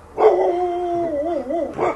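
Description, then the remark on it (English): Dogs bark sharply in the Drew Street neighborhood of Los Angeles, then a long wavering howl rises and trembles for over a second before another bark cuts in, loud, with no talking. “Nobody liked me in this neighborhood, not even the dogs.”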